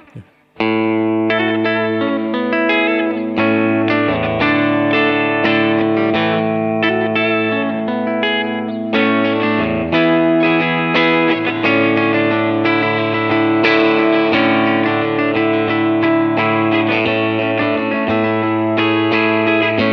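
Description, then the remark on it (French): A clean electric guitar, played through a V-Twin, plays a steady run of chords and single notes for the full stretch, each note trailed by short slapback, a little reverb echo and bouncing ping-pong delay echoes, fairly loud, with no voices. “Il y a un petit slapback, un petit peu d'écho de reverb et un petit peu de délai ping-pong parce que je peux pas m'empêcher.”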